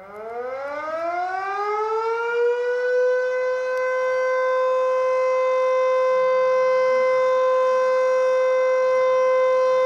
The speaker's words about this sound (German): Die haben auch eine Sirene, die Österreicher und Österreicherinnen. Wir haben die hier. Ich spiele die mal ganz kurz, aber ganz kurz nur ein. Das ist diese hier.